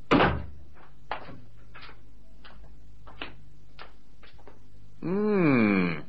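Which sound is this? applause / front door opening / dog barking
front door opening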